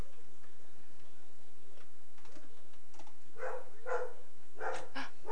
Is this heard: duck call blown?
no